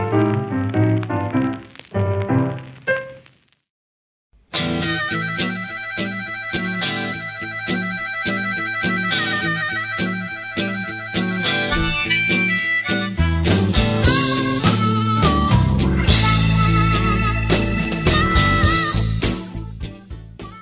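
Blues band music without vocals, full and loud with steady rhythmic chords; a short break near the start, then the instrumental carries on strongly before fading at the end.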